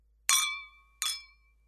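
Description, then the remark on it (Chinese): Two bright clinks of glasses touching in a celebratory drinking toast, clear, each leaving a short ringing tone that fades before the next strike about a second later. “今天咱们一起喝个痛快，儿子你也是。今天这么好的日子，你也得给我喝上几瓶才够，知道没？干杯！”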